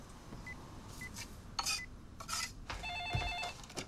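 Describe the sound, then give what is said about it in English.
A few short electronic beeps and handling clicks, then a warbling telephone ring tone pulses for about a second as a call is placed to someone's mother. No one speaks. “Call your mom and ask. Go on. He puts the phone in her hands.”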